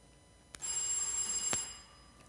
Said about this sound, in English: Was that bell time perfect or what?